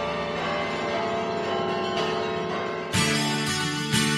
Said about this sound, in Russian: И эту композицию мы на концерте исполняем, их соединяет только колокольный перезвон.